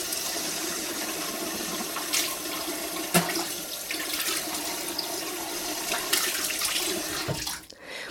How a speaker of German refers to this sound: Also ich spüre immer noch die Frische in meinem Mund, jetzt nachdem ich die Zahnpasta ausgespült habe.